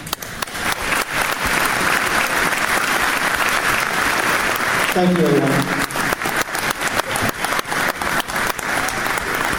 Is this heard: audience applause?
yes